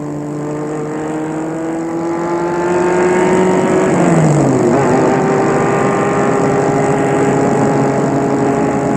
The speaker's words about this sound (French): Ils entrent tous les deux dans la voiture et Adrien met la voiture en route. La voiture file.